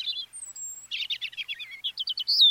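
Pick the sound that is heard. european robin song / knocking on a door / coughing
european robin song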